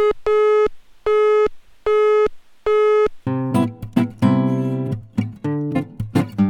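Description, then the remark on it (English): A telephone busy signal on the Radia.fm line: four loud, evenly spaced beeps of a steady buzzy tone, each about half a second long, followed by music starting up. “All lines are busy at the moment, please be patient.”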